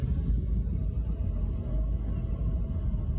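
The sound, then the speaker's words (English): A steady, low rumble of motorcycle traffic fills the street, a continuous engine drone with no single bike standing out and no voices. “Look at the motorcycles.”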